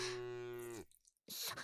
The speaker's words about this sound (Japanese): ここが牧場か。すごい、牛がいっぱいいる。